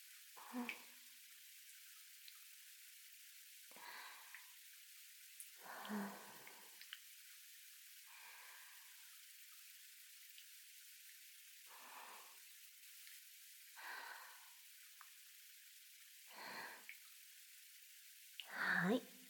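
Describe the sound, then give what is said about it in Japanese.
Water rinses soap foam off something in a series of short, soft splashes, about ten separate bursts spaced a second or two apart, fairly quiet, with hushed pauses between them. “泡、全部落ちたよ。”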